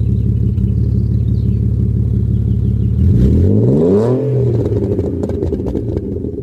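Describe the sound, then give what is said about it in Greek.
The engine of an Alfa Romeo 156, a front-wheel-drive car, idles with a steady low rumble, then revs sharply upward around the middle before dropping back, loud, with no talking. “Ένα αυτοκίνητο σε μπροστινή κίνηση, ένα αυτοκίνητο που έβαλε την Alfa Romeo ξανά στο παιχνίδι, Alfa Romeo 156.”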